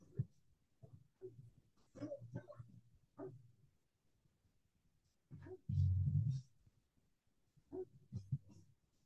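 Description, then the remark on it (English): A dog barks and growls in a series of short, uneven bursts, with one louder, longer bark partway through, heard fairly quietly against a low background. “Barking. Get a bark.”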